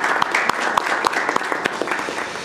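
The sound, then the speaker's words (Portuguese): An audience breaks into steady applause for Senator Cristóvão and former deputy Marcos Rolim, a dense wash of many hands clapping at a fairly loud, even level, with a few sharper individual claps standing out. “Eu quero dar uma salva de palmas para o Cristóvão e para o ex-deputado Marcos Rolim, se me permitirem aí.”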